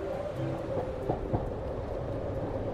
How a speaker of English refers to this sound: Making your way up the mountain on train, however, is a surefire success. Tirelessly and on time with Swiss efficiency, no once-in-a-lifetime storm can delay a journey on rail.